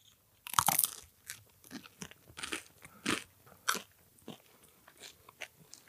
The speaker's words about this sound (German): Und dann halten wir uns einfach mal beim Abbeißen die Nase zu, kauen auf dieses Brot und gucken, was passiert. Und irgendwann machen wir die Nase auf.